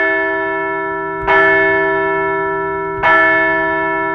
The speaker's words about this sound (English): So let's ring the bell.